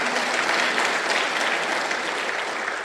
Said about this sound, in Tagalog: Ayun ang pumalakpak mga tao rito.